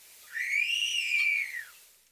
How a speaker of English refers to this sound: The wolf whistle notes are especially helpful in recognizing this species.